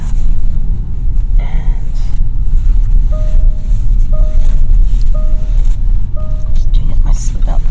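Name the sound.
car driving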